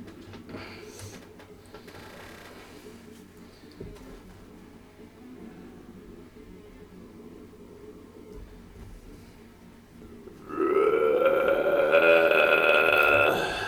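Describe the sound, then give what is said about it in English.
A low, murky rumble hangs for about ten seconds before heavy music bursts in loud, with a harsh growled vocal and distorted bass droning steadily to the end. “Just hammer out a fucking electric bass and growl.”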